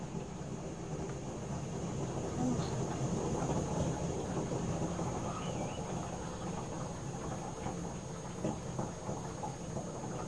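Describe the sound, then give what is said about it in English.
A toilet flushing, a steady, rumbling rush of water that holds at an even loudness for the whole stretch without pause. No one speaks over it. “It's not thunder. Is it? It's the toilet.”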